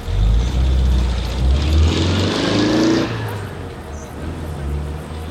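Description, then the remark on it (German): A small grey car's engine rumbles, rising briefly with a revving whine before the sound fades as the car slowly drives away with Mr. Katzinger, leaving a low idle-like hum. “Als die drei Detektive das Wohnmobil verließen, sahen sie, wie Mr. Katzinger in ein kleines graues Auto stieg. Mit langsamem Tempo fuhr er davon.”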